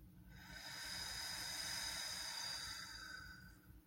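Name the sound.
slow deep exhale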